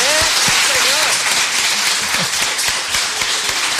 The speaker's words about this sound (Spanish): Habrá que aplaudir, ¿no?